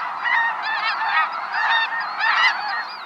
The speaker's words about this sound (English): When we watch birds, they're often in flight. Snow geese.